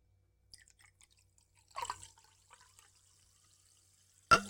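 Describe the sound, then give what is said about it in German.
A carbonated drink with too little carbonation is poured into a glass: faint scattered fizzing and drips, a brief louder pouring splash, then quiet crackles before a sudden loud knock at the very end. “Weil nicht genug Kohlensäure drin ist.”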